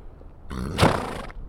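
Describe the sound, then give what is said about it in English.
A mare named Star on a farm, having her chin whiskers clipped, gives a single short, throaty vocal sound, fairly loud, swelling and fading within about a second. No one is talking. “This bearded lady is a horse.”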